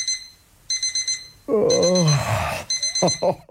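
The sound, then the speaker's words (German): An electronic alarm clock beeps in rapid, high-pitched bursts, pausing and starting again; midway a drowsy voice groans over the insistent ringing, then vocal sounds briefly return as the beeping continues. “Auch in ganz Deutschland wird diese Dösel-Taste, sprich Snooze-Taste, immer beliebter.”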